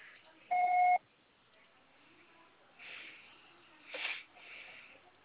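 A single steady electronic voicemail recording beep on a phone, about half a second long, with a clear tone and a faint higher harmonic, followed by quiet breathy sounds and soft rustles.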